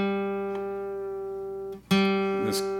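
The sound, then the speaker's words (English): A single guitar note rings out and sustains, rich in overtones, then is cut off and plucked again, with a few small string and fret noises, as the slightly sharp G string is being tuned. “Tuning up, guys. I'm a little sharp on the G.”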